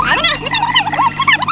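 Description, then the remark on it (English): A tape rewind effect: a loud, continuous stream of rapid, high-pitched warbling squeals and chirps, like sped-up audio running backward, lasting about a second and a half. “Oops, I went too far ahead. Let me rewind a little bit.”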